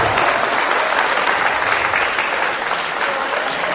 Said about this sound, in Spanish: El aplauso sí se le puede dar a nuestro párroco y pastor.